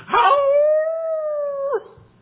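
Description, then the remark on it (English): A hound dog gives a single drawn-out howl, loud, holding a steady pitch for about a second and a half before breaking off with a short rising yelp at the end. “I mean, that's what we use them old hound dogs for, or chase some rabbits, amen.”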